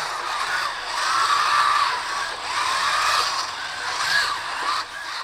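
A dense, steady whirring of many small robots moving about together, with high motor whines that waver and glide in pitch, swelling and easing in loudness without any voices.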